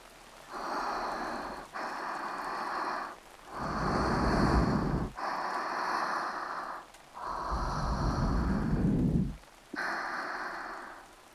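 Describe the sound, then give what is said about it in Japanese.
Steady hiss of rain comes in long, loud bursts separated by brief near-silent gaps, with a fuller rumbling patter in some stretches and no voices. “今ならさ、ちょっとくらいの喘ぎ声なら、雨が消してくれるよね。”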